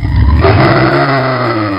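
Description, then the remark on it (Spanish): An enraged pig lets out a loud, harsh, guttural grunting roar that rumbles low and continuous for about two seconds, with no talking over it. “Bueno, ¿qué cerdo... cojones tenemos declaraciones del está el cerdo enfurecido?”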